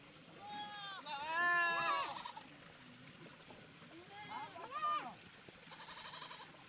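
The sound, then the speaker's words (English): Hundreds of livestock crowd around a water trough at a borehole with a solar water pump, jostling to drink with not enough water, bleating over one another: loud, wavering, high calls in overlapping bursts, the strongest around the first and fifth seconds, with a thinner, buzzier bleat at the end. “Hundreds of animals crowd around a trough, jostling to drink. There's not enough water, and you can hear their desperation.”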